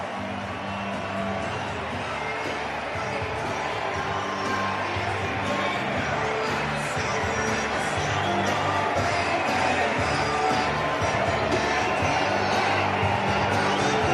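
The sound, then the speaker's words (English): A huge stadium crowd at a Cubs–Red Sox spring baseball game roars and cheers after Bodie's home run, in a dense, sustained wash of noise that holds steady and swells slightly louder toward the end, with scattered shouts and whoops inside it. “This huge crowd, they love it.”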